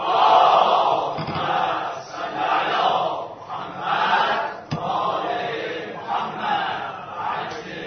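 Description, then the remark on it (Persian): A large audience at a religious sermon recites salawat together in unison at the preacher's call, a loud, dense swell of many voices rising and falling in rhythmic phrases for several seconds, with no single speaker standing out. “به یه صلوات که می‌ارسید.”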